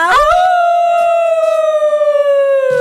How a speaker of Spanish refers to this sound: Oigan, por si se quedó alguien con ganas de aullar.